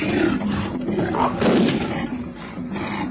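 A black-maned lion roars loudly as it charges at a girl, one sustained, rumbling growl lasting about three seconds that swells in the middle before easing off slightly, with no voices.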